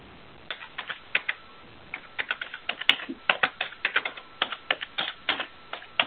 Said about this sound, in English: I hear typing, but no talking.